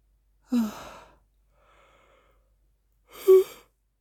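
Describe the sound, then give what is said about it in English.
Two long, breathy yawns from a single person, separated by a short quiet pause, each drawn out with a low voiced groan at its peak. “Sorry for yawning so much.”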